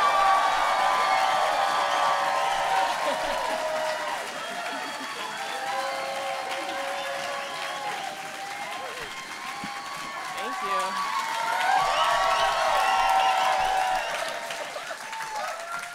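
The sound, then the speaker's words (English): An audience bursts into sustained applause and cheering as a comedian is introduced on stage, a dense wash of clapping with whoops and shouts rising over it, swelling again near the end before easing off. “Please make a lot of noise. I want you to break the building for my dear friend,”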